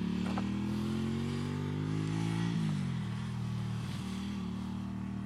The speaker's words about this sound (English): There's a guy with Has he got L plates on? Yeah, he has. Guy with L plates on his motorbike. And you get that quite often. You get a lot of learner drivers coming on here, cars and articulated wagons.